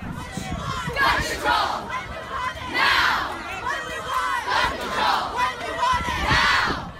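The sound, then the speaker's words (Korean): A large crowd of high school students chants the gun control protest slogan "Gun Control Now" in unison near the US Capitol in Washington, DC, the loud shouted phrases rising and falling in a steady repeating rhythm over a constant background roar of voices. “네, 14일 이곳 워싱턴 DC 연방의사당 근처에 모인 학생들이 구호를 외치는 소리가 나오는데요.”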